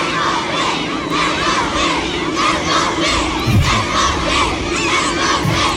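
Hundreds of fans, some in France team colours, chant footballer Kylian Mbappé's name in unison as the French national team arrives at its base camp in Bad Lippspringe, Germany, at midday: loud, rhythmic repeated shouts rising over a constant roar of voices and cheering.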